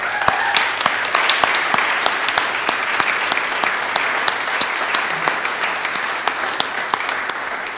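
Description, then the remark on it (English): Steady audience applause fills the whole stretch, a dense, even wash of many hands clapping with sharper individual claps popping out throughout, fairly loud and sustained without talk. “in fact, I would actually like us to give them a round of applause.”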